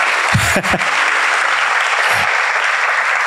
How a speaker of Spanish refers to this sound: Esa me la gané, ese aplauso me lo gané.